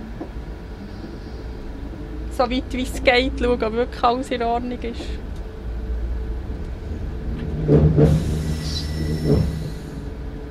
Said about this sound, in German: Jetzt muss ich hier schauen, warten, bis die Türen zu sind. Die sind jetzt zu. Jetzt kann ich Bremsen lösen und kann ich abfahren.